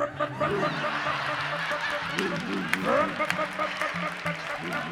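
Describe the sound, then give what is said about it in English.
About 100 elephants from a circus train trumpeting in a busy, noisy jumble, several brassy honking calls rising and overlapping over a steady crowd-like din, with one louder blare standing out near the middle. “Here comes 100 elephants screaming down into the perfect.”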